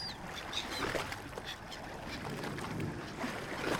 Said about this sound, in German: Ein großes Schiff liegt dort im Hafen mit einem großen Segel. Der Kapitän lässt ihn an Bord und das Schiff legt ab.